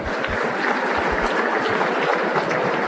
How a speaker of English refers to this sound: Another round of applause for Kevin Liang.